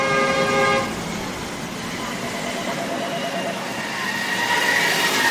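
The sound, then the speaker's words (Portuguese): Car horns honk amid a traffic jam in a Brazilian city: a loud sustained blast opens, then fades into a steady wash of engine and street noise, with another horn rising near the end. “Quem nunca ficou retido em um engarrafamento, com o coração aos pulos, as mãos suadas de tanta tensão, por ver o tempo se escoar para aquele compromisso inadiável?”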